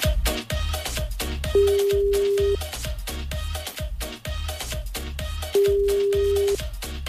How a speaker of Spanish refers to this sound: Ahora no nos quieren contestar, ¿viste? Voy a cortar y voy a llamar de nuevo